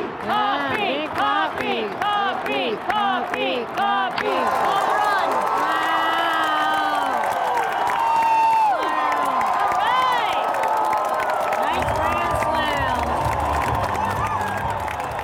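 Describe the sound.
A big ballpark crowd roars and cheers, starting with rhythmic clapping and chanting before swelling into a loud, sustained wall of shouts and whoops from many voices.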